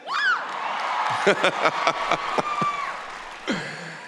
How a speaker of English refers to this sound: You know, I'm feeling good today because this is the first time I've been in front of a live audience, hearing live applause since last February, 14 months ago. For a needy performer like myself, this is a very big deal. It feels very nice.